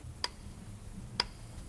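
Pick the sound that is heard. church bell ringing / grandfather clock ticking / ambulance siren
grandfather clock ticking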